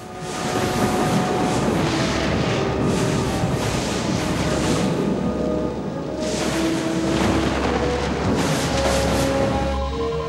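A loud, unbroken thunderstorm roar over a colony, with rolling rumbles swelling in waves every few seconds over a steady wash of noise and a faint droning hum. No voices.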